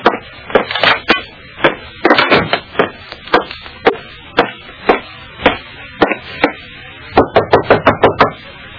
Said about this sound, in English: Nobody answered my knock at Janie's dressing room. I tried the doorknob, was just about to go in when...